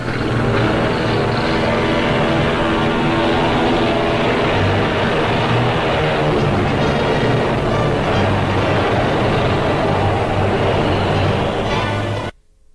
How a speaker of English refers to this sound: While airplanes drone their way into the skies.